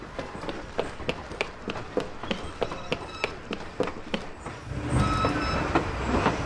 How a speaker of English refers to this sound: The train's going so fast! We'll get killed if we jump off!